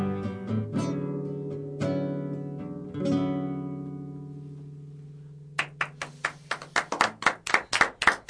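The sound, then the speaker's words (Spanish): Sustained ringing chords from a band fade out, then steady, rhythmic audience clapping begins, crisp sharp claps in even succession growing slightly louder over the last few seconds. “Aplausos por aquí.”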